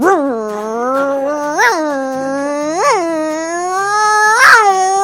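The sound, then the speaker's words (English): A child's voice imitates a motorcycle engine with one continuous, steady drone that swells upward three times like revving throttle bursts, with no other talking. “My favorite sound would have to be the sound of a motorcycle, and it goes like this.”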